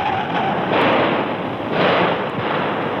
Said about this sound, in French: Un attentat vient de se produire, avenue des Champs-Élysées, presque au coin de la Concorde, sur la place de la Concorde. Des coups de feu ont éclaté immédiatement. Les Français et les Anglais ont riposté.